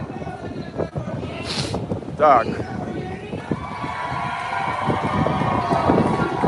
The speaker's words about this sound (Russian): Ветер сильный. Я боюсь, что из-за ветра вам меня не очень слышно.